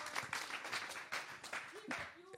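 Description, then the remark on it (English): A crowd applauds for Jesus during a testimony given in English with German translation, dense overlapping hand claps forming a continuous wash, with a few voices calling out faintly over the clapping. “Yeah, you can clap.”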